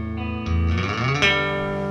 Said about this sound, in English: Some echo. Echoes.